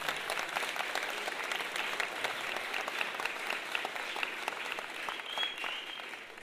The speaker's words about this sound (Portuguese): E lá eu tive uma surpresa, eu conheci um músico que eu achei excepcional, um garotinho. Levanta aqui pro pessoal aplaudir você.